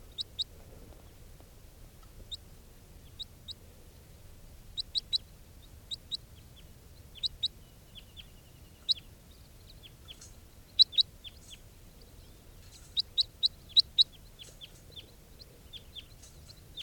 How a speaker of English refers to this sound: There's some wild birds coming around. This is 431. Wild birds type 4s, a flock of about 10 flying over.